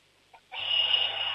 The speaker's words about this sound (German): Boah, das ist aber eine schrille Klingel, cool.